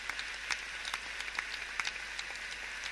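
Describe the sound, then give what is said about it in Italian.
Dense, steady applause from a large concert audience at the Lingotto after Brahms's Piano Concerto No. 2, played by pianist Louis Lortie with the Filarmonica della Scala under Andrea Battistoni, many hands clapping together in a continuous wash with scattered sharper claps and no voices. “Applausi molto calorosi, come potete sentire, da parte del pubblico qui al Lingotto dopo questa spumeggiante conclusione del concerto di Brahms per pianoforte e orchestra, il secondo in si bemolle maggiore”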